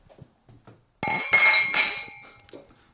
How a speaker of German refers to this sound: Und müssen, glaube ich, im Geist dieser Folge abweichend mit einem... mit einer Bierflasche oder Bierglas anstoßen. Ja, also ich würde sagen, wir nehmen mal ein Bierglas hier, ne?